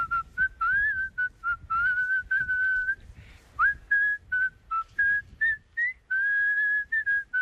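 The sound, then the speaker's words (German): A person whistles a catchy earworm song melody, a clear run of short and held notes in a lively rhythm with brief pauses between phrases, no talking. “wir hören noch mal ganz kurz rein in den Ohrwurm, den du uns gepfiffen hast.”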